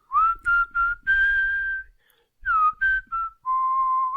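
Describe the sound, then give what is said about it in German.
Someone whistles a short tune: a few quick notes, a longer held tone, a brief pause, then another quick phrase ending on a sustained lower note. “Ich pfeife diesmal, vielleicht klappt es dann besser.”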